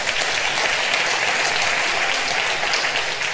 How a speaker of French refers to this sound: On peut donner gloire à Dieu par des acclamations encore.